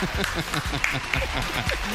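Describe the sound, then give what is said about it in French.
An audience applauds steadily for about two seconds, a dense, even patter of many hands clapping at moderate loudness, with a murmur of voices mixed underneath. “On va applaudir quand même”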